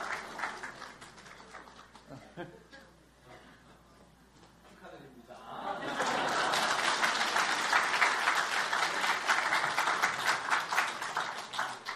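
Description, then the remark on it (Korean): An audience breaks into sustained applause as the winner of a rock-paper-scissors game comes forward to taste unleavened bread (matzah). Dense rapid clapping swells loudly halfway through and holds steady to the end, following a quieter stretch with voices and scattered claps. “이기신 분, 예, 앞으로 나오시면 되겠습니다. 박수로, 네.”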